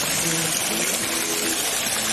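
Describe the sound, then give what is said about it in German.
Feet being dipped into the cool splashing water of a fountain water feature at the Obertrave in Lübeck, Germany, on a hot summer evening in August 2024; a steady, fairly loud rush and patter of water throughout with no clear individual splashes standing out. “ich halte da jetzt meine Füße noch mal rein”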